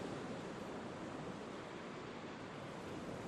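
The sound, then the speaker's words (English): Gentle waves of a calm sea wash softly onto the shore at night under the moon in a steady, unbroken hush, quiet with no voices; the air is mild and still. “The sound of the waves is nothing more than a soft sigh.”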